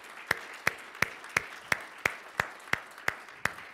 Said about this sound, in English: Yeah, give glory to God. If we're going to clap, let's give it to Jesus.